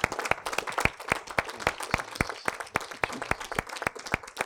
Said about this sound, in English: Hallelujah. Let's give the Lord a hand clap. Let's just praise Him. Hallelujah, Jesus.